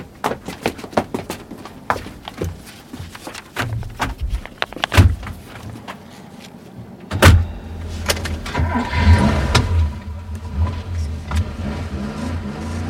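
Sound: car driving off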